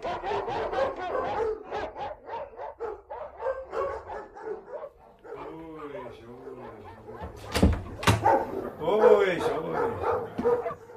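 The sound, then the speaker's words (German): Several dogs bark in rapid, overlapping bursts after a doorbell on the wall of a waiting room is pressed, shifting into high whines and yips, then breaking into excited barking again, loud throughout. “So ist es jedes Mal, wenn Sie Schellen hören. Ich kann Ihnen das nicht abgewöhnen.”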